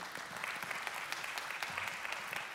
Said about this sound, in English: They clapped a whole lot louder last night at 6 o'clock.